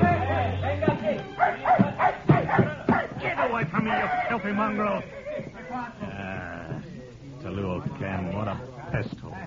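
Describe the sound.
A dog yelps and cries after being kicked, a rapid run of sharp, high-pitched bursts, loud and insistent, then breaks into longer whining wails mixed with voices.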